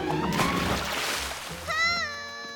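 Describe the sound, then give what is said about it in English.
A loud splash as Roo slips on a banana skin and plunges into a river, with water churning and splattering for over a second, followed by a brief, high-pitched wavering cry. “Roo's landed in the river.”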